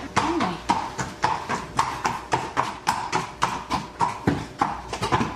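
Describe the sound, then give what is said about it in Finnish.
Steady clip-clop of a horse's hooves striking a hard floor at a walking pace as the horse is led inside, fairly loud, with a brief low whinny-like murmur near the start. “Nyt tuotiin heppa sisälle ja tuo aina harjapakin tähän, mä vähän nyt katselen.”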